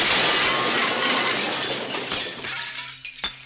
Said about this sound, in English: So anyway, the second she passes over the threshold, one of these plate glass windows comes dropping down exactly where she was standing.